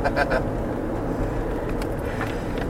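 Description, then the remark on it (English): A car drives along a winding, overgrown rural road, its steady low rumble and road noise constant throughout, with a few brief rattly clicks near the start. “the seatbelt already locked in place because of you driving.”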